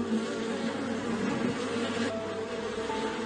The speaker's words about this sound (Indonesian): Namun apa dikata, saat sang tawon terbang ke sana kemari, mencari ruang untuk bisa keluar, dia tidak menemukan satu celah pun